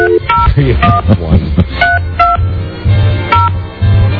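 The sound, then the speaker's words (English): A series of short touch-tone telephone keypad beeps as a phone number is dialed, about half a dozen dual-pitched tones pressed at an uneven pace, clear over a low, steady background hum. “I dialed a 3 instead of a 5.”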